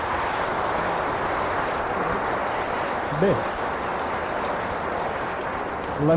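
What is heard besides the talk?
audience applause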